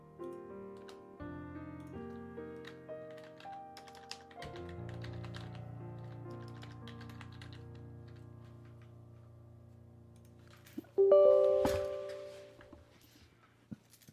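Scattered clicks of typing on a computer keyboard, including the Enter key being pressed to check the keyboard still works after a water cup was knocked over on the desk, play over steady background music, with a louder burst of sound near the end and no one talking.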